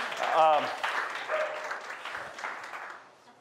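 A crowd claps steadily for a few seconds, a dense patter of many hands with a brief cheer near the start, gradually tapering off toward the end.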